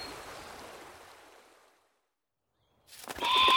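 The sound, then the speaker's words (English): Rushing water of a river in a park fades into a brief silence, then a bird trapped in a carrier bag, unable to fly or swim, suddenly flaps its wings in loud, frantic bursts, with shrill bird cries mixed in. No one speaks. “Look, this bird's trapped. It can't fly or swim.”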